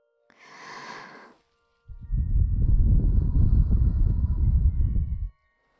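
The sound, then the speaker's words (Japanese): Breathing right up against the microphone: a short, airy intake followed by a long, slow exhale that buffets the mic with a low, rumbling whoosh. No talking. “私の吐息感じるんでしょ？”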